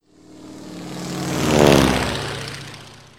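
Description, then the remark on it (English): A propeller airplane engine drones steadily, growing louder to a peak midway as it passes by, then fading away again. No voices are heard. “Do you go by airplane?”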